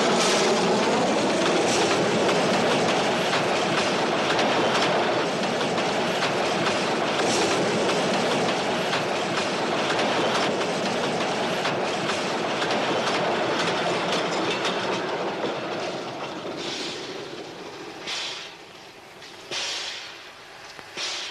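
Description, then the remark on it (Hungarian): A fast train rushes through a station on track one without stopping, a loud sustained roar with rapid clattering of wheels over rail joints, easing off toward the end as it passes. “Figyelem, figyelem, az egyes vágányon gyors vonat halad át.”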